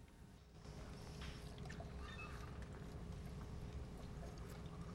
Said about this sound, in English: She stops pouring, and he sits with his eyes closed as she screws the lid back on.